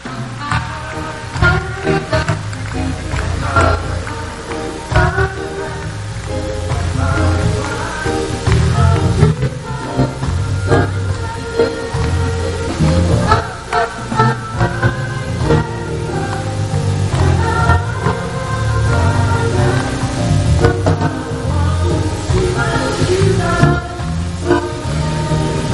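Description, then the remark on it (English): An audience claps their hands continuously and loudly for Jesus and the Almighty God, the dense, steady clapping mixed with music and singing for the whole stretch, without pause. “Don't be stingy with clapping. Come on, clap for the Almighty God.”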